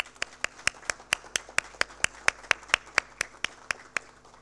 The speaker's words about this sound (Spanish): Un aplauso.